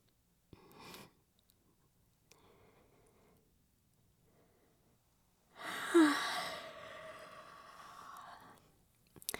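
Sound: yawn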